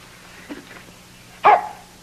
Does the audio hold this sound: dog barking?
yes